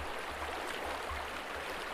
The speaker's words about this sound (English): As you sat next to the riverbed, you might start to realize that the sound of the river was almost too loud for how much water ran next to you.